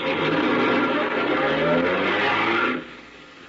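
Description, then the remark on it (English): A car engine roars loudly and steadily for a few seconds, then quickly fades as the vehicle pulls away, leaving a quieter background. “Move over, will you? No. I said move over. I'm driving this buggy.”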